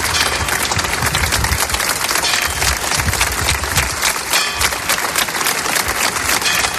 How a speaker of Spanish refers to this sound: Una plaza abarrotada que se ha fundido en un emotivo aplauso de varios minutos.